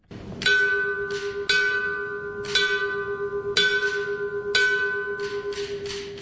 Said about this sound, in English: The final alarm bell rang as part of the memorial service for Bryan Fire Lieutenants Greg Pickard and Eric Wallace.